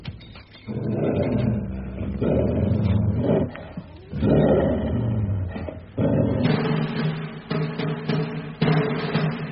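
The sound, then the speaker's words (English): Attacking dogs snarling and growling in a radio dramatization of Arthur Conan Doyle's Micah Clarke, a furious, overlapping tangle of rough, throaty roars, loud and continuous, with brief gaps between surges and no one speaking over them. “Draw your sword, and when the dogs leap, strike down and strike hard.”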